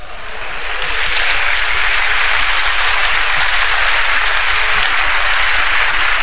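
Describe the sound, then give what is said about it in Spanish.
A large crowd applauds continuously, a dense, loud wash of clapping that swells in the first second and then holds steady throughout, with no voices standing out. “Ahí aplaudía más fuerte que nosotros.”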